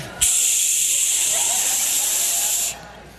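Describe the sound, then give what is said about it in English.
A voice imitates steam coming out of David's ears with one loud, steady hiss held for about two and a half seconds, then cuts off abruptly into quiet. “I mean, if you could see him in the spirit, there's steam coming out of his ears.”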